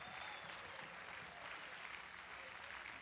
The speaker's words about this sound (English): Somebody clap your hands and give God some glory in this place.